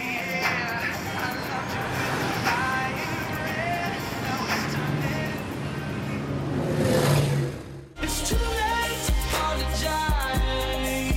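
A dense, steady roar of heavy road traffic beside a six-lane through road, with engines surging for about eight seconds. It then cuts off abruptly and rhythmic music with a steady beat takes over.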